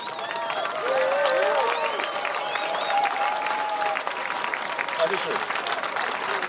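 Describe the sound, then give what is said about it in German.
An audience applauds a musical performer steadily for several seconds, a dense wash of many hands clapping at an even loudness, with scattered voices and cheers rising through it. “Ja, ich warte mal den Applaus ab, den hat er verdient.”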